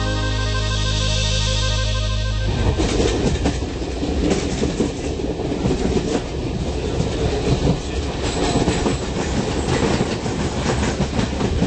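A train rolls along the rails with a loud, steady rumble and a rhythmic clickety-clack of wheels, opening with a couple of seconds of sustained droning tone. No one speaks.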